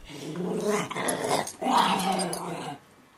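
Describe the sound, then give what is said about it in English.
A 14-pound dog, Frankie, growls in playful, rumbling bursts while wrestling with another dog, Memphis: two sustained snarling growls with a brief pause between, ending abruptly into quiet. “If this was happy Frankie, try to imagine mad Frankie.”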